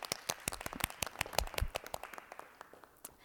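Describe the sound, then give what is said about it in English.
A small group applauds teachers at a school board meeting in a brisk, irregular scatter of sharp hand claps that thins out and fades toward the end, with no talking over it. “Yeah, let's applaud for them.”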